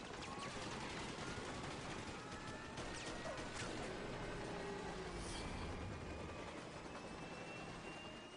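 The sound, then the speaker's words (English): A loud, unbroken roar of helicopter noise with rapid heavy gunfire hammering through it, a steady mechanical whine running underneath and no voices. It is a film scene shot right next to the 5 freeway at rush hour, with an actor up in the chopper firing a large gun. “And this, the noise of the chopper and the size of the gun they're shooting.”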